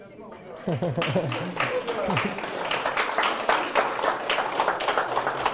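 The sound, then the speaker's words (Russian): An audience applauds with steady, dense clapping that starts after a brief pause and continues at an even level to the end, while a voice talks briefly early on. “Я не знаю, чему вы аплодируете на самом деле.”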